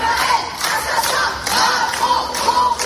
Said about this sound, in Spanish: Estos gritos de Israel asesino, Macron cómplice, han sido pronunciados hoy frente a la Universidad de Lyon, donde se han reunido varias decenas de estudiantes a los que el servicio de seguridad les ha impedido el acceso.